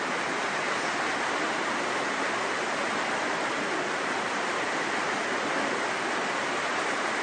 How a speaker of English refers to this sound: So now the rain is falling. And here in Singha Toka. It was needed rain. I heard there was some rain shortage. The water was turned off. So this is very good. The rain is falling in Singha Toka.